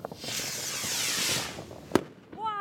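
A firework rocket whooshes upward with a long hissing rush, then bursts in a single sharp bang, followed by faint crackling and a short wavering whistle.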